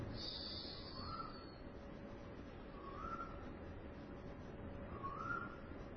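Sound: cuckoo calling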